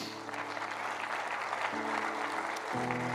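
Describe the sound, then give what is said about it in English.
A church audience claps steadily in a dense, sustained wash of applause for members of the Navigators, while low held musical chords sound underneath and shift pitch twice. “Yeah, we're going to clap for you in a second. Yeah, can we clap for these guys?”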